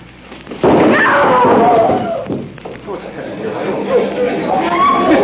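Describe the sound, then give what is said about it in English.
A heavy sandbag dropped by a stagehand falls on a woman on a theatre stage, landing with one sudden, loud thud, followed at once by a commotion of many voices reacting in alarm. “now Miss Michaels has been hit by a sandbag”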